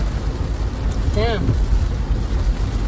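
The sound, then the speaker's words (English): Heavy rain pounds steadily on a moving car, a dense, constant hiss over a deep road rumble, with a brief voice cutting through partway. “It's raining cats and dogs, boys.”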